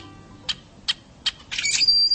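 A rusty blackbird gives three short, evenly spaced clucks, then breaks into a creaky, squeaky burst of high whistles, like a rusty hinge, alone against faint background hiss.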